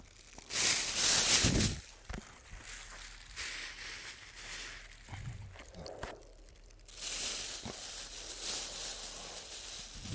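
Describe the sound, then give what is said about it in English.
Plastic bag crackling and crinkling in irregular bursts, loudest near the start and again in the second half, with bright, hissy rustles and brief thumps in between and no speech. “They wanted me to review my Polish Army Lavu a bit more, and apologies for the crackling of the bag.”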